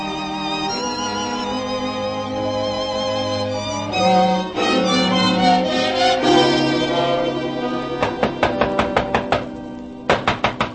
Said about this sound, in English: But that's no call to be pounding on me door so hard that the divil himself would rise up to be counted.